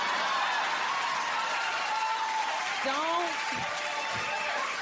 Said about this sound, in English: See all them short men clapping?